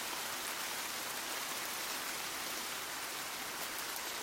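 Heavy rain pours down in a steady, dense, loud hiss, with no break or voices throughout.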